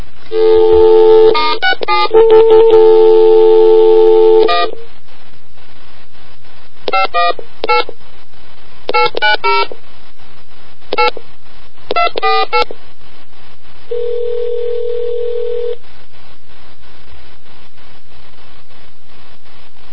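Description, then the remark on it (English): A fast run of telephone keypad dialing tones as *67 is dialed to block caller ID, calling the Bell Atlantic call block test line, then several short clusters of beeps separated by pauses, ending with one steady held tone. No voices. “I'm gonna *67 this to block my caller ID.”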